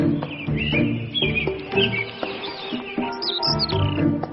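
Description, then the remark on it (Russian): Birds chirp and tweet in quick, repeated bursts of high notes, answering a person who is imitating birdsong, over a steady low tonal hum that runs through the whole stretch. “мы услышали сразу, как ей стали отвечать птички.”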